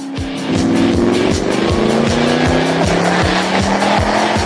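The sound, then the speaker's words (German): A powerful tuned Weineck Cobra sports car engine roars as it accelerates hard, its pitch climbing steadily through the gears with rhythmic gear-change dips, loud with no one talking. “Fahren mit der Weineck Cobra kann man nur mit Bungee-Jumping von Wolkenkratzern vergleichen.”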